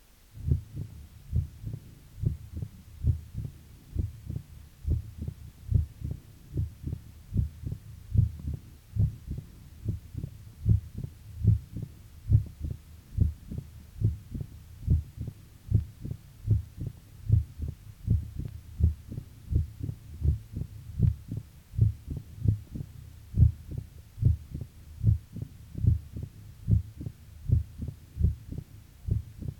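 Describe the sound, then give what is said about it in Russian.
A steady run of heartbeats heard through a stethoscope at the apex of a patient with mitral stenosis, each with a sharp, loud snapping first sound, repeating at a regular resting rhythm over a low throbbing hum, with no talking. “Прослушайте хлопающий первый тон на верхушке у больного с митральным стенозом.”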